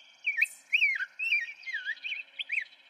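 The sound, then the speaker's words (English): A grosbeak sings a rich, warbling string of sweet whistled phrases that rise and fall in quick succession, heard clearly with no other sounds. “The rose-breasted grosbeak and evening grosbeak take their names from their big, thick, seed-crunching beaks.”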